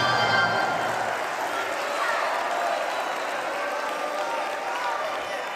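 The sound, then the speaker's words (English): A church audience shouts and applauds together in response to a sermon about multiplication, a dense, steady roar of clapping and overlapping raised voices that holds at an even loudness throughout. “Did you see how many more people shouted off of multiplication than they did sacrifice?”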